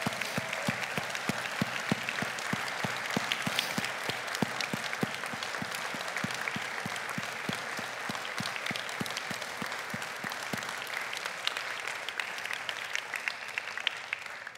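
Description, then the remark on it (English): A standing audience applauds a sister and brother honored as risk takers for Christ, steadily for about fourteen seconds, a dense wash of many hands clapping with crisp individual claps standing out. The applause stays loud and even throughout, with no talking. “And I want to ask you this morning, would you please stand and let's give them the applause that they deserve for being risk takers for Christ.”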